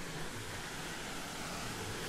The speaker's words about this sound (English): And, oh, I can hear the sound of rushing water.